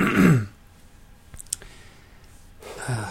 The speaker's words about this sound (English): I apologize. I keep clearing my throat. It's probably going to be really annoying on the recording. But whatever.